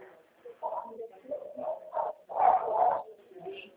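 Many of the neighbor's dogs bark in bursts, their yaps overlapping and swelling to a louder cluster near the end, with a muffled, phone-like quality.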